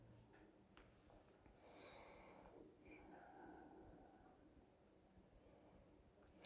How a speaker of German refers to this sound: Der schöne tiefe Atem, diese entspannte Körperform, ein bisschen gedehnt, ein bisschen die Organmassage, schon ein bisschen auch diesen Energiekörper durch das tiefe Atmen wecken.